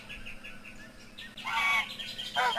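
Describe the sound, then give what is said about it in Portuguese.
An angry goose lets out a few quick, thin honks, then bursts into loud, harsh, raspy honking twice in a row, with no talking. “Eu tenho o som do ganso enraivecido aqui.”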